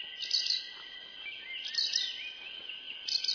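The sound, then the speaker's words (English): A colorful little parakeet chirps and twitters in high, rapid bursts, with brief lulls between flurries; the calls are fairly soft, with no one speaking. “At first, the citizens of Gothenburg, Sweden, are enchanted by the colorful little parakeet that traders have brought back from the exotic East Indies.”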